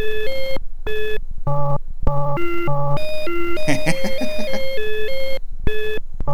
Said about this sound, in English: And yes, the bit collider is very noisy and staticky. All that static you hear is... well, it's okay. It's kind of supposed to be that way.